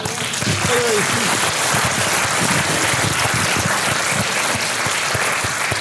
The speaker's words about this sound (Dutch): Ik heb nog nooit zo'n applaus gehad.